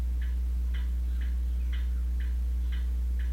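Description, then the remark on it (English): An old mantel clock ticks steadily, about two ticks per second with a slight alternating tick-tock rhythm, over a low, constant hum. “The mantle and the clock. The old clock is a clock just like that.”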